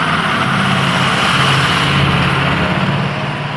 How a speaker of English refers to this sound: That was a noisy truck.